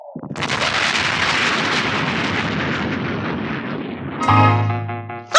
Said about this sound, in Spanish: Se inclina a babor 2 grados. Dará en el blanco. Y luego, una explosión distante sacude al barco.